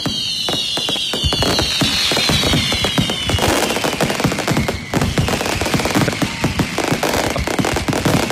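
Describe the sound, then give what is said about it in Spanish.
A dense, rapid barrage of fireworks bangs and crackles from a night-time festival display near Sardinero beach in a Spanish capital city, during the Santiago fiestas, dozens of sharp pops in quick succession with whistling streaks overhead, loud and continuous with no talking. “El sonido de la noche lo han puesto los fuegos artificiales aquí en la capital.”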